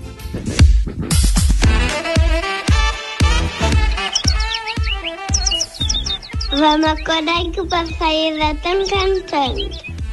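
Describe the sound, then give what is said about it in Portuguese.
A small bird sings in bright, high chirps and rising warbles, repeated over a steady rhythmic musical backing with a strong low beat, loud. “Vamos acordar que o passarinho está tão cantando.”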